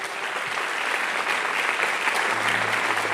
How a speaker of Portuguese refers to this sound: Vamos aplaudir a Ele.